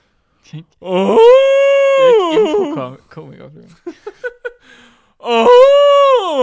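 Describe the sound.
A person imitates an elephant's specific alarm call meaning 'human' with a loud, sustained nasal wail that bends in pitch, then a few short choppy bursts, and finally another long wailing cry.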